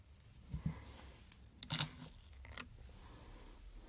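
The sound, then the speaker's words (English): A few sharp metallic clicks and snips from scissors being handled, spaced irregularly over a few seconds, with no talking. “I have scissors.”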